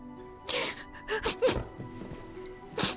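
A woman cries softly, with several shaky sniffles and gasping breaths in short bursts, close by and fairly quiet, with no clear speech.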